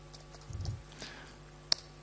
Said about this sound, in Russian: Я набираю install package.